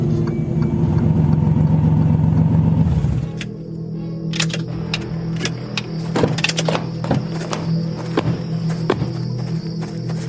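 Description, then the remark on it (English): A rented off-road truck's engine rumbles loudly for a few seconds as it drives to a compound at night, then drops away as the vehicle stops at the acreage settlement, leaving a low idle with scattered clicks and light footsteps. “they rented an off-road truck to drive straight to the compound.”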